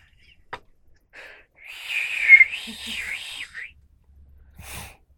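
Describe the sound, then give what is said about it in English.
A breathy, wavering whistle from one person, sliding up and down in pitch for about two seconds, airy and fairly faint, with a short click before it and a soft rustle after. “That's what haunts my dreams, is you trying to whistle.”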